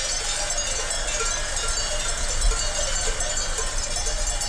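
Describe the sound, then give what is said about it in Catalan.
Many cowbells clank and jingle continuously from a herd of cows grazing in a green, sloping meadow facing west, a dense, steady metallic tinkling at moderate volume with no one speaking. “Són un munt de vaques que estaven pasturant en un prat verd, un espai inclinat, encarat cap a ponent”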